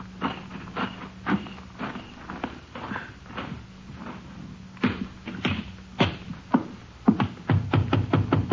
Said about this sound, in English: Wait till you hear me knock and get in.